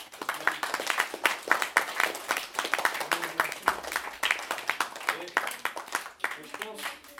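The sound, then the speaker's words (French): An audience applauds itself steadily for several seconds, a dense wash of many hands clapping at once, with a few voices calling out underneath the clapping. “Moi, je pense que déjà, une dernière fois, vous pouvez vous applaudir le public.”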